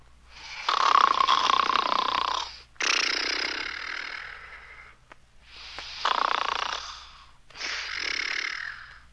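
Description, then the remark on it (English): Four loud, raspy snores from old Daddy Doggy going off to sleep come in a slow, steady rhythm, each a long rough breath with a brief pause between them. There is no talking. “And off to sleep, old Daddy Doggy went.”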